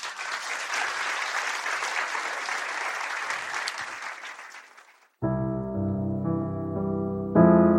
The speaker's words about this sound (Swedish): Kanske en liten applåd.